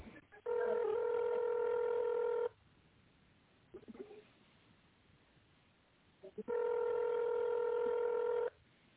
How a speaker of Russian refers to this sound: Если вы знаете внутренний номер абонента, наберите его в тоновом режиме или вы дождитесь ответа секретаря.